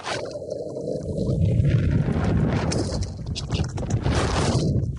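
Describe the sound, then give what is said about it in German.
Heavy wind buffets the microphone outdoors as the person recording walks, in a continuous low rumble, with gusty surges and rough flutter filling the low end for the whole stretch; no clear talking comes through. “Oh Mann, dieser Wind hier ist auch, macht einen verrückt, wenn man einen Podcast aufnimmt und laufen will.”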